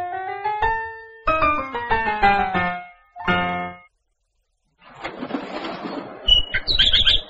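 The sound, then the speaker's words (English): A pet bird named Tweet Tweet chirps in quick, bright tonal bursts, then falls silent before a rustling flutter of wings and a few high squeaky peeps finish it off. “Oh, point to the bird, please.”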